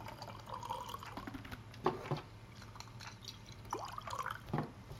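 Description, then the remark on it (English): Jura whiskey, bought in Scotland, is poured into a glass in an office in quiet, uneven glugs and drips, with a few brighter splashes, over a low steady background hum. “And I get to pour it.”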